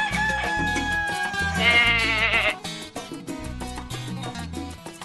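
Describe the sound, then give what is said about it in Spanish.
A single rooster crow with a wavering, drawn-out call rises over a bouncy musical backing with steady low beats, loud, with no one speaking, played on a morning radio programme just after 8 a.m. “El gallo interrumpido por esos comentarios acertados y desacertados que hace nuestro productor Fuentes.”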